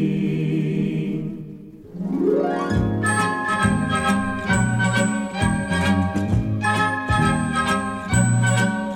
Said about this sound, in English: we're going to spend a few minutes ringing some Christmas bells here.